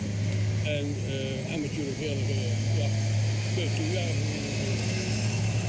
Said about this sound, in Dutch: Het dagelijkse leven gaat dus zo te zien ook door met tractoren en die voorbij komen.